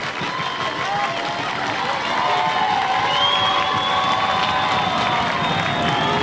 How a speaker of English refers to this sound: Fans from both teams on their feet now and cheering for what is a massive pitch right here. Grass Lake trying to rally here in the bottom of the seventh, 3-2.